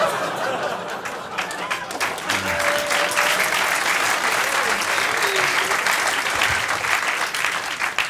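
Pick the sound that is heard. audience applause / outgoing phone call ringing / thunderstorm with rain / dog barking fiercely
audience applause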